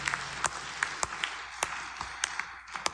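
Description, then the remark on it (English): A crowd of people clapping together as a clap of honour to the Lord, with a dense patter of many hands and several sharper, louder claps standing out at irregular moments, steady and moderately loud throughout. “Give a clap of honor to the Lord.”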